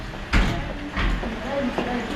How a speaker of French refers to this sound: Paris, 8h30. La porte de l'immeuble de Médecins sans frontières vient de s'ouvrir.